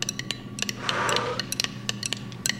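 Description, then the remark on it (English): Dice rolled during a game rattle and clatter in a quick, irregular burst of sharp clicks and taps, with a brief shaking rush in the middle, moderately loud, with no voices over them. The roll comes up a two. “Okay, I'm going to go ahead and roll the dice if you'll give me a little blow on them bones.”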